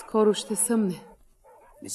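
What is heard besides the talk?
dogs barking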